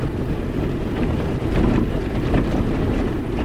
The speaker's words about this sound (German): Fast eine halbe Stunde fahren wir mit einem schweren Pickup-Lastwagen auf zunehmend holprigeren Feldwegen.